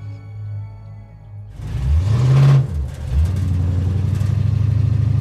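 A car engine idles low, then revs up sharply around the middle, dips as gears shift, and settles into a steady loud drone as the car drives around southern Portland searching for a house, with no voices.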